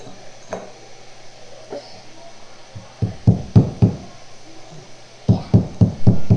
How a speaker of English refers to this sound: This is what the hammer is for. It helps you move it in there.